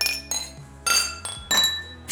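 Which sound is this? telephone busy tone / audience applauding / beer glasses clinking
beer glasses clinking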